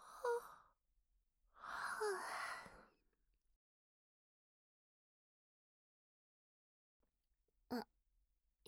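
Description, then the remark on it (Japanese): A girl yawns: a short breathy opening, then a longer, voiced, drawn-out exhale, followed by several seconds of quiet and a brief soft click near the end. “あくびしてるところ、そんなにじっと見たら恥ずかしいよ。”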